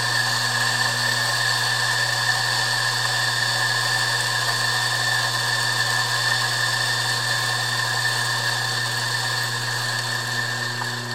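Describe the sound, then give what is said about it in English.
A coffee grinder runs continuously, grinding espresso beans to the fineness of regular sugar, with a loud, steady motorized whir and a gritty, buzzing hum that holds an even pitch throughout, with no talking. “So let's grind it up here. It does make a wee bit of noise.”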